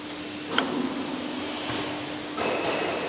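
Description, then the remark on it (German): A winding engine's drop brake releases with a sharp metallic clunk, then a steady mechanical rush and low hum, swelling again into a brighter hissing surge near the end. “Das war die Fallbremse.”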